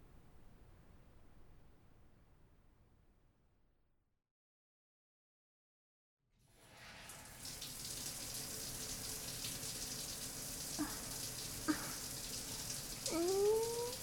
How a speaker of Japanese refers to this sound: ねえ、一緒にシャワー浴びない？